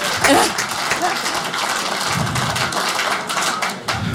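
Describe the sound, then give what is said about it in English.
Steady applause from a live audience fills the whole stretch, a dense patter of clapping with a brief whoop near the start and some murmuring voices mixed in. “By applause, how many people here tonight are old?”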